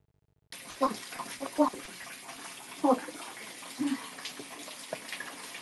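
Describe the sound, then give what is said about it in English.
Water runs steadily with a broad hiss while someone washes with soap, broken by a few short splashy bursts and faint voice-like murmurs. “Can you hear the soap? Can you hear the wash down?”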